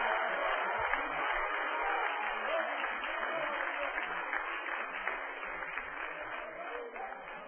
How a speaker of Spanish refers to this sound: Den un aplauso a tu Dios en esta noche.